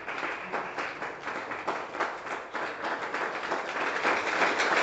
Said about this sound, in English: Ezingalo zonna zakwaniriza. All those clapping that welcome you.